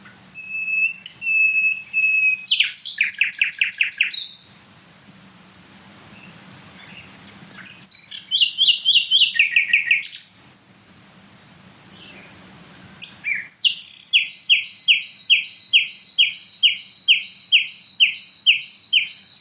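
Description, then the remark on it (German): A nightingale, a bird smaller than a blackbird, sings alone in loud bursts with varied motifs: a sustained whistle, then rapid gurgling trills of repeated notes, separated by short pauses, ending in a long, fast, bubbling series. “Boah, was ist das für ein Glucksen?”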